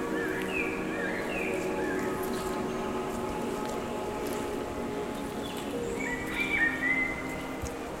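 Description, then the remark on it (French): A couple of fluty, whistled blackbird song phrases, one early and one near the end, carry over a steady low droning hum that fills the whole recording. “Oiseaux solistes comme le merle.”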